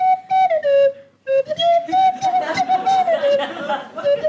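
A tin whistle plays a short wavering tune of held and sliding notes, close and fairly loud, with a brief pause near the start and light chatter and laughter underneath.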